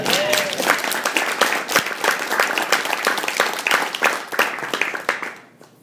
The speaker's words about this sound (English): Can I just say that she's been listening better than so many of us have. Thank you. Actually, that deserves some applause.